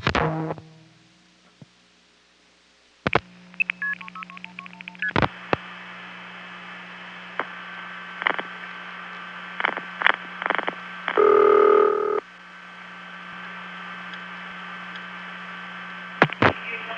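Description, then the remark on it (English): Telephone line sounds: sharp clicks and a quick run of stepped dialing beeps over a steady electrical hum, then a single loud ring tone about a second long. No one speaks. “Remember how it sounded right before it started to ring? Here it is again.”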